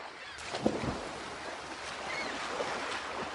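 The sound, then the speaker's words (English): Steady wash of waves lapping around an anchored sailing boat on open water, a broad continuous rush with faint wind and a brief bird call near the start. “Great day for sailing. It sure is. The water looks so nice. Anchor the boat for a little while.”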